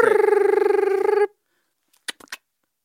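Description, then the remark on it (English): A single buzzing phone ringback tone from a call dialed on an iPhone 3 sounds for just over a second, then cuts to silence, followed by a few faint clicks like a line connecting. No one speaks. “Well, there goes ringing.”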